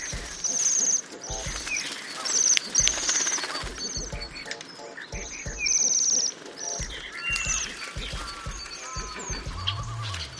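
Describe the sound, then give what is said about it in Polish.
High, thin ringing trills of Bohemian waxwings, a wintering bird, repeat in bursts, several birds calling over one another as a flock. The calls sound steady over a low background rumble, with no talking. “Tak, takie charakterystyczne dzwonienie to jest jemiołuszka, też ptak taki powszechnie znany, kojarzony właśnie z zimą.”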